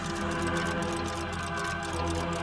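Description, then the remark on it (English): Several grandfather clocks with big brass pendulums tick steadily together in a house filled with clocks of all sizes, their overlapping beats forming a busy, continuous clatter over a low sustained hum, fairly loud with no voices. “Grandfather clocks ticking with big brass ticking pendulums ticking.”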